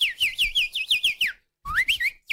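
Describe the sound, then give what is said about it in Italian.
A person whistles a rapid, trilling birdlike phrase imitating a goldfinch: a quick run of repeated rising-falling chirps, a brief pause, then a few more warbling notes, clear with no talking. “Ma senti che è un uccellino, guarda che veramente è un cardellino.”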